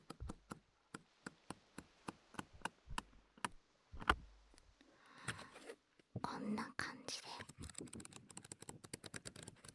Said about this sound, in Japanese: いろんな紙の音でした。皆さんもね、ぜひぜひ身近にある紙の音、ちょっとペラペラめくってみたりとかしてね、聞いてみてください。本当にいろんな種類ありますからね。